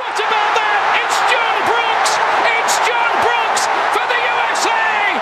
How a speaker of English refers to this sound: And here, sound from Kansas City at that victory. That is now homegrown American soccer enthusiasm.